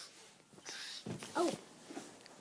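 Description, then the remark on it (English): A single yawn: a long breathy inhale that swells, then a brief voiced, whiny rise-and-fall near its peak before trailing off quietly. “I am yawning. I got a case of the yawns.”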